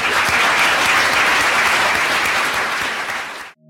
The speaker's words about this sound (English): Thank you very much to you for participating and for your questions. And I think they really deserve a huge applause.